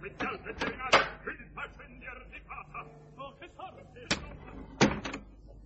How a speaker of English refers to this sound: Come on, open the box door, darling.